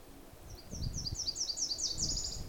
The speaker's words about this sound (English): I'm afraid you can hear a plane going over, but you can also clearly hear that little Nashville warbler.